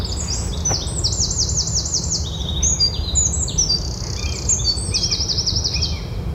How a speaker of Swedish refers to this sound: Dagens fågel... Dagens fågel. Får väl bli den här... Gärdsmygen som jag fångade i närbild. Får lyssna på den, eller? Mm. Här kommer den.